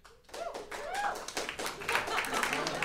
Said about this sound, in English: Golf claps. You got a few.